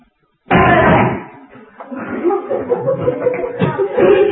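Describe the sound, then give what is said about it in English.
A sudden loud bang on a door at night bursts out of silence and rings briefly, then gives way to murmuring voices and soft laughter that continue at a moderate level. “And suddenly there's a bang on the door.”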